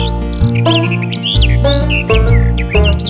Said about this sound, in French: La fauvette des jardins. Alors dites-moi, j'ai entendu quoi ? La fauvette des jardins.